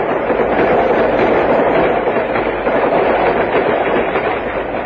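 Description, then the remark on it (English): A train rolls along the rails with a loud, steady rumble and dense rattling noise that holds constant throughout, with no voices over it. “Hey, imagine train travel giving you indigestion.”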